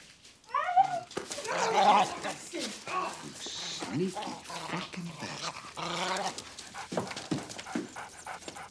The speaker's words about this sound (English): It's fucking squeaking! Man, you never heard a dog squeaking for you? That goddamn dog.